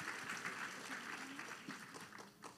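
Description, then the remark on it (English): An audience at Grace Church applauding warmly to welcome children at a Christmas service, a steady dense clatter of many hands clapping together, with faint voices mixed in beneath the applause. “Would you clap your hands and make these children welcome here today?”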